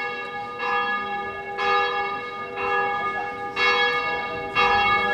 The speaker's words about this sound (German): Das Glockengeläut ist nicht nur Urzeit bekannt zu geben, Glockengeläut ist in Korčula viel, viel mehr. Da haben wir zum Beispiel Todesnachrichten.